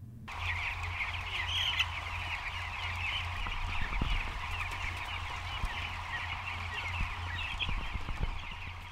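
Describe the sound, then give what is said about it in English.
A dense, continuous chorus of over 25,000 eleven-day-old broiler chickens peeping and chirping together as they scurry from the recently opened door of a chicken house on the Yang family farm in Summers, Arkansas, steady and fairly loud, with a low mechanical hum running underneath. “Over 25,000 11-day-old broiler chickens scurry from the recently opened door of a chicken house.”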